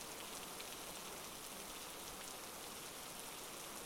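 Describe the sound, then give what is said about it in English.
Steady, pouring rain falls outdoors, a dense, even hiss of drops spattering on surfaces, constant throughout with no voices. “You're supposed to be the center of attention, not chasing me out into the rain.”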